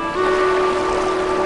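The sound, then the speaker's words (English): A boat cuts a slow path across shimmering water by an island dock, its engine giving a steady, droning hum over a constant wash of water noise, fairly loud, with no voices. “As the boat cuts a slow path across the shimmering water, Jack eagerly steps onto the bow of the boat.”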